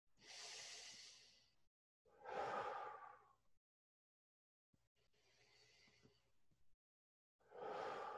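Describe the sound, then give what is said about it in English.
Slow, deep cleansing breaths, airy inhales in through the nose alternating with fuller, breathy exhales out through the mouth, about four in a steady rhythm with short pauses of silence between them. “Beginning by taking 4 or 5 nice deep cleansing breaths in through the nose and out through the mouth.”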